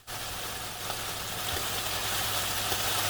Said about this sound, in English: Okay. Let's try it. All right. Fried chicken sleep sounds.